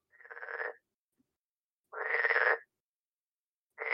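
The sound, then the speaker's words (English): Loud, rasping frog croaks ring out through the woods in winter in about three long bursts separated by pauses, each call a buzzy, pulsing rattle that carries clearly with no voices present. “a frog.”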